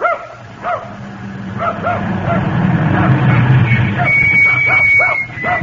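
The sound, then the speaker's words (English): A dog barks repeatedly in sharp, yappy bursts, loud, with a steady low hum and rumble running underneath the whole time. “Well, now, if you'll call off your dog, ma'am, I'm selling some books here that you might like to see.”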